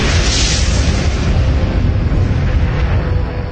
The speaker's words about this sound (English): Scientists call it an airburst, a massive explosion in the atmosphere rather than on the ground. As it enters the atmosphere at speeds of up to 20 kilometers per second, the air resistance decelerates the asteroid so fast it breaks apart in a huge